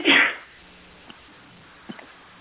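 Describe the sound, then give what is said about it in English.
During a meeting, a single loud, explosive sneeze bursts out at the start and fades within half a second, followed by near silence with a couple of faint clicks. “Bless you. Bless you.”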